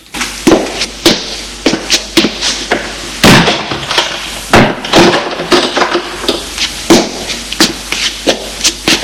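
door being shut

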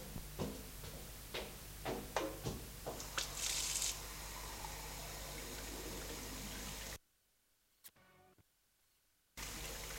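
shower water running

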